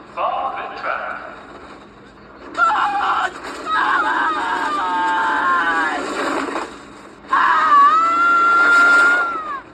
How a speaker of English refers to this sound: Their first run down the track, Sanka screams the entire fucking way. And listen, it is gloriously hilarious.